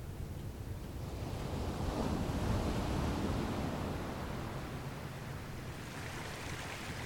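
Waves wash and break steadily on a sandy shore, a continuous broad roar swelling in the middle, with a strong onshore wind gusting and buffeting throughout, carrying a light spray. No voices.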